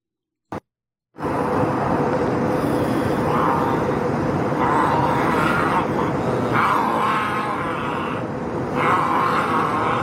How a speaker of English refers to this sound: This is on an airplane. This is call him a middle-aged white gentleman who is upset about the mask mandate, and he's now like rubbing the mask on his face and growling.